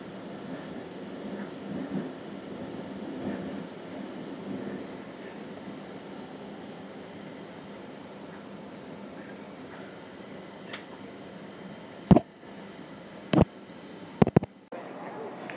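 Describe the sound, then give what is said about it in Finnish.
Busy underground metro (tunnelbana) local-transit interchange station ambience at Kulmansplan, with a steady low rumble and murmuring crowd voices, then a few sharp, loud clanks and bangs near the end. “Ja tässä nyt vähän sitten tätä äänivaisevaa täältä Kulmansplanin lähiliikenteen joku tämmöinen vaihtoasema.”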